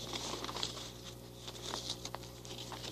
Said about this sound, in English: And fold the paper in half.